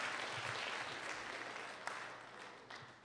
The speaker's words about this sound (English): Give my three friends a hand clap as they go back to their seat.